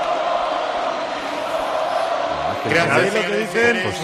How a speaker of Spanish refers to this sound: Mira el pueblo cómo grita. Sí, sí, que queremos escuchar ese ambiente.